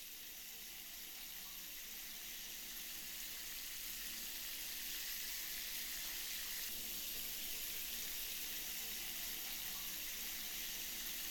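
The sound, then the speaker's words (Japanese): A shower runs in a bathtub in a steady, continuous hiss of spraying water poured over a person's shoulders, without pause for several seconds. It is even, with no voices. “シャワーで流しましょう。肩からかけますね。”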